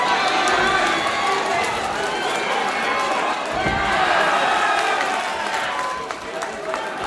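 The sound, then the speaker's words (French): A dense crowd around a fight between two boys shouts and cheers continuously, many overlapping voices yelling encouragement, with some laughter and a brief thud in the middle, loud throughout the whole stretch. “Et tout autour, donc il y a surtout des encouragements, les gens rient.”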